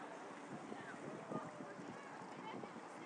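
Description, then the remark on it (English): Water sloshes and splashes steadily against the hull of a boat moving at cruising speed, a continuous wash of noise with a faint murmur of voices beneath it. “It's making sloshy sounds. That'd be the water, yes.”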